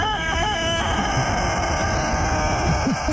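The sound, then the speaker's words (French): A long-crowing rooster's crow holds a steady, strained note for a moment, then breaks off abruptly, leaving a constant noisy background of low rumbling and faint scattered sounds. “Le coq de champ, longue durée.”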